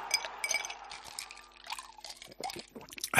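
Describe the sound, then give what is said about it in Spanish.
A cold drink pours into a glass over ice, with bright trickling liquid and several sharp clinks of cubes knocking together, ending on a louder splash. No one speaks. “Lo que tardas en beberte una bebida bien fresquita, con sus hielos, cuando estás en pleno verano y a 40 grados a la sombra”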